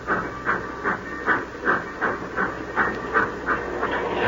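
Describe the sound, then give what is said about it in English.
A steam locomotive pulling a long freight train chuffs steadily, rhythmic bursts of hiss repeating about every third of a second over a low rumbling rail background as the train pulls away. “The old boiler up front's got the steam up.”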